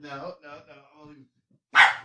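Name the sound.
small terrier-type dog barking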